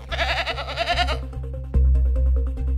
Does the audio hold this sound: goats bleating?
yes